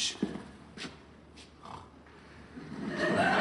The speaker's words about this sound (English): There it is again, did you hear that? Sounds like snoring coming from the plane.